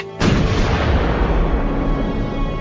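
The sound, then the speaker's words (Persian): A single heavy artillery cannon blast booms out suddenly, followed by a long, loud rumbling roar that slowly fades. No voices are heard. “کجاست آن گوش شنوایی که بشنود آوای تسبیحی را که از نای بلند توپ های ما برمی آید؟”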